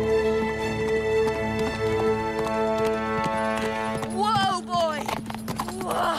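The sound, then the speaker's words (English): A horse gallops with rapid, rhythmic hooves clip-clopping over a steady tonal drone, and a shrill whinny rises and falls near the end. “In a moment of devilment, I turn my horse through a moss-black arch and gallop into the very heart of the castle.”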